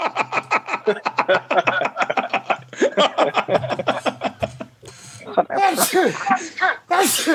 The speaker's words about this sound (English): Oh, sorry, I sneezed there.